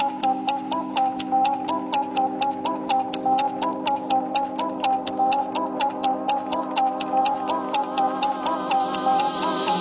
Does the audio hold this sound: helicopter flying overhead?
no